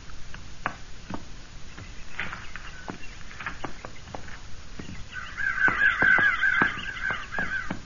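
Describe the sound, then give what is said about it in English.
Several crows, flushed earlier and gone back to eating, caw in harsh, scattered calls, growing denser and louder near the end into an overlapping squabble, with faint clicks and rustling in between. “And crows, we flushed back there and went back to eating again.”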